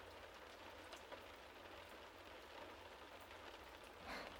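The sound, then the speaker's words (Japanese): Steady rain falls outdoors, a dense, continuous hiss of drops pattering on surfaces with a low rumble underneath, unchanging throughout with no voices. “少し雨宿りさせてくれないかな。傘なんて持ってきてないし、うちまでの道は雨が降るとちょっと危なくてね。”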